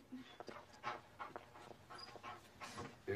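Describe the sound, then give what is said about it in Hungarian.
A tracking dog pants rapidly and steadily, quick breathy huffs repeating without pause, with a faint whimper slipping in near the end. “Köszönöm, a gyerek holmiára lenne szükségünk, hogy a kutya szimatot vegyen.”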